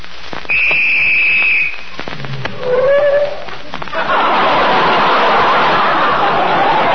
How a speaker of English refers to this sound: Holy smokes. Sorry, old man. Somebody blew the whistle by mistake.